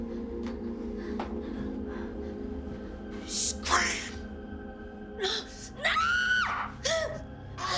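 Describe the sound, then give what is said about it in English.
A person screams in a few short, strained bursts, the longest a high, wavering cry near the end, over a low steady background hum. “You have to scream.”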